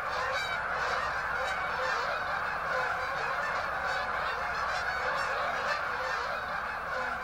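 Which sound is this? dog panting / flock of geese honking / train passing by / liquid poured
flock of geese honking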